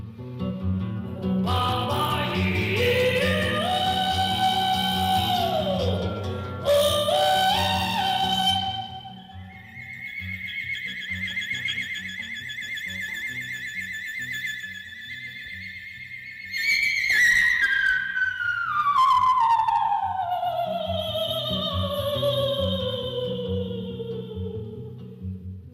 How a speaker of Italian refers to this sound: Beh, qui siamo ai confini dell'ultrasuono. Siamo ai confini della realtà, come la famosa serie TV. Sì, questo è una sorta di fischio faringeo che, per chi è appassionato di voce, non è sicuramente passato inosservato